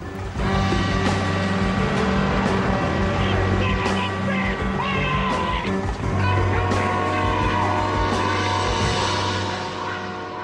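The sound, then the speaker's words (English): A loud, steady engine drone with a deep rumble and strong tonal hum runs throughout, shifting slightly in pitch partway through as a tow truck carrying a sedan on the back pulls away. “He calmly gets into the driving seat of the truck. To the anguish of the truck driver, the detective pulls away with the sedan on the back.”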